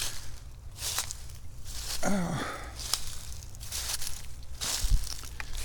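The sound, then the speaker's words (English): Crunchy footsteps through dry leaves in Tranquility Park, an uneven series of crackling steps at a slow walking pace, with a brief spoken exclamation partway through and a low background rumble. “But that's the one annoying thing about walking around in leaves.”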